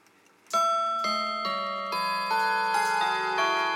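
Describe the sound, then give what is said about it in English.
A mantel clock plays the Garrard version of the Whittington chime, a quick run of about eight bright, ringing bell notes that sustain and overlap one another, with no voices over them. “This is a beautiful version of the Whittington chime.”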